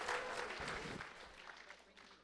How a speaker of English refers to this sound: All right, another round of applause, please.